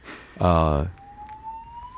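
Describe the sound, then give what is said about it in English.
A fire alarm going off: a short, loud, buzzing blast, then a thin, steady tone that slowly rises in pitch and stays softer to the end. “Fire alarm? I think so. Let's wait for that.”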